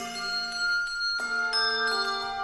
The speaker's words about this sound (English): This is the Sonos Handbell Ensemble, one of the few choirs that mixes Schulmerich and Malmark bells.